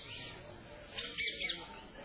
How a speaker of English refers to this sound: The birds are cooing.